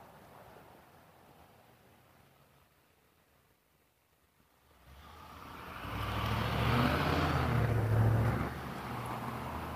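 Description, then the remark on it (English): A truck approaches and rolls past, its low engine rumble and road roar swelling over a few seconds after a quiet start, then easing slightly without fully fading. “The logo on that truck.”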